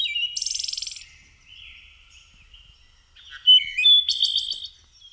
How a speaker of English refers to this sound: watch for any kind of movement in the treetops. That's probably a warbler, and you're about to start an exciting hobby of warbler watching.